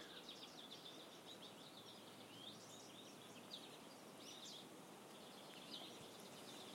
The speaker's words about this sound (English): There's a blue jay.